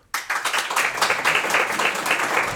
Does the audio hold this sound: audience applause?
yes